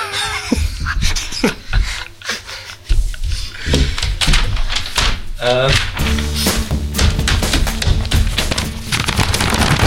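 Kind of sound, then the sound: household object, paper shuffling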